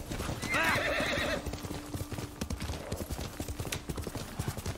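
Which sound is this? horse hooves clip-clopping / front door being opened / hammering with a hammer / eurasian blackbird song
horse hooves clip-clopping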